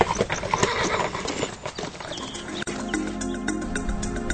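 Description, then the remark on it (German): Horse hooves clip-clop in a slow, steady walking rhythm as the horse is ridden slowly, fairly loud, with a brief whinny mixed in and no talking. “Tja, wenn du meinst, dann werde ich dir zuliebe auch ganz langsam reiten.”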